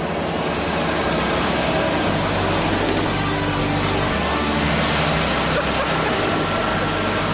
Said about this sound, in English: Once the dust settles, we'll be able to start mixing the cow's food. That's alfalfa grass hay. As you can see, he's going to put it right in the back of his big Roto-Mix truck here.